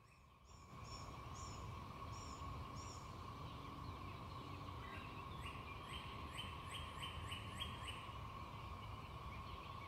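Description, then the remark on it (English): A steady, high-pitched cicada drone fills the background while birds chirp over it in quick repeated bursts, some clear, others fainter, with no one speaking. “Hear that hum in the background behind the birds, that constant noise? That's the cicadas.”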